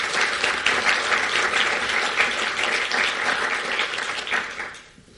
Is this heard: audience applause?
yes